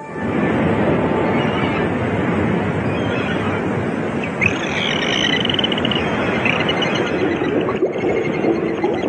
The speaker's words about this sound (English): A live feed from the Atlantic Ocean.